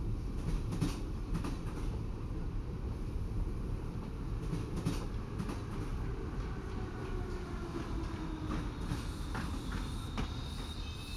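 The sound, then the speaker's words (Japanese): A sleeper train rolls steadily along the rails with a constant low rumble and faint rhythmic clatter, a thin high squeal rising and fading near the end; no one speaks. “寝台列車に座っているだけとはいえ、長時間の移動には疲れがつきものですし”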